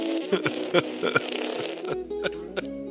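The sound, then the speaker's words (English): A series of wet, juicy fart noises sputters in a quick rhythmic pattern, loud, layered over a sustained musical tone with no one talking. “I hadn't remembered that it was so juicy. That was before I started loving farts.”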